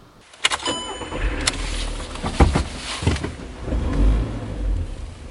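Ambience from inside a parked car with the windows down: a low engine rumble, a few sharp knocks and thumps, and steady outdoor parking-lot noise, with no one speaking.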